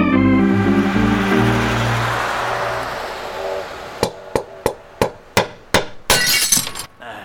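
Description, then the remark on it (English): A sustained tonal hum fades out, then about seven sharp, evenly spaced knocks on glass lead into a brief bright crash of window glass breaking and scattering. “Just slip your arm in through that broken window and reach around and flip the latch on the door.”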